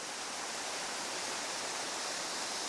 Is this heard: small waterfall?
yes